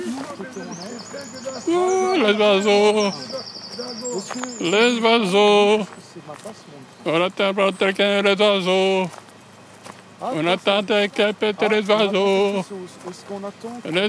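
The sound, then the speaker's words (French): Thin, high bird calls chirp in the first half, partly buried under loud voices talking almost continuously throughout. “On entend les oiseaux.”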